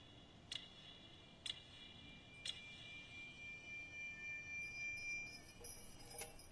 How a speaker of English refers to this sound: And it just, it's one of those things, especially during Christmas, it reminds me of my youth as well. And that is with, again, this might be hard for you to hear, the ticking of the clock.